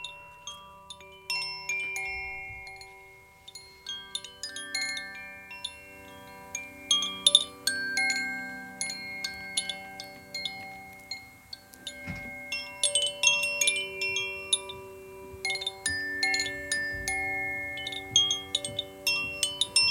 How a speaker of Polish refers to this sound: Przywiozłem tutaj dwa rodzaje dzwonków Koshi. One charakteryzują się żywiołami. Także mam ze sobą żywioł ognia, który brzmi w taki oto sposób.